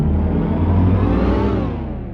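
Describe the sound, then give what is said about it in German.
An electric car accelerates on a German road with a steady, rising whir from its motor, loud, the tone climbing smoothly before easing off slightly at the end. “So soll er klingen, der Sound eines klimaneutralen Deutschlands. Der Sound der Zukunft auf deutschen Straßen.”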